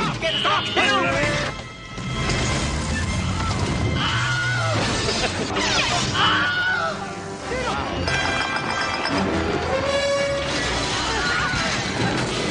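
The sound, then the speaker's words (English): The Wilhelm scream sound effect, used in Hollywood films for about 60 years, repeats several times in quick succession in a sequence of its film uses, each short, high yelp loud over a dense backdrop of crashes, smashes and movie-action noise, with no clear talk. “You're listening to the evolution of the Wilhelm Scream.”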